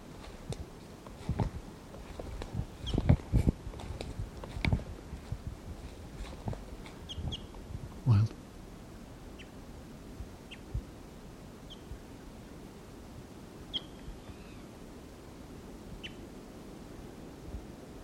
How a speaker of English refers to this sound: Wild bird.